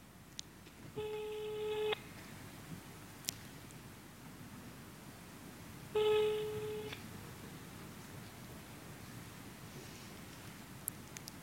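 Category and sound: signal or alarm, telephone call ringing tone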